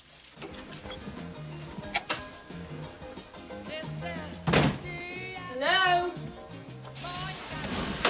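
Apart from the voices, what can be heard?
shower running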